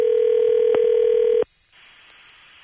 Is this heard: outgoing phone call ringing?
yes